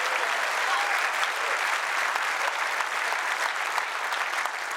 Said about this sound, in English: Somebody clap your hands right now in this place.